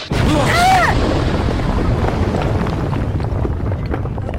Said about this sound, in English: really was an explosion.